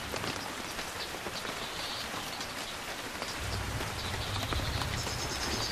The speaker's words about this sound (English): Grey clouds roll across the forest, obscuring the canopy and drenching everything with rain. A change in the weather is a new challenge for the orangutans.